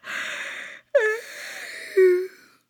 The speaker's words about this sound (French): Moi, dans mon lit, mon petit lit douillet, Doudou Poum à mes côtés, je bâille, ma bouche aussi ronde que la lune ce soir. Je suis fatiguée.